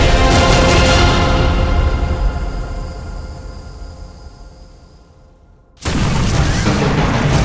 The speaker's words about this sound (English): Four 400 paces away, Agon heard the explosion and whipped his head around trying to locate its source.